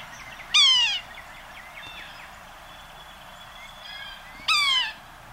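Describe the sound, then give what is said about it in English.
Two nasal, downslurred mewing calls from a yellow-bellied sapsucker, soft and kitten-like, sound about four seconds apart, with fainter bird chatter and a thin whistle in the background between them. “To me, this bird sounds like the very soft meow of a young kitten.”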